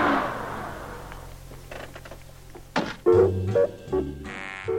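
car horn honking

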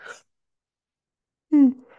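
a person yawning

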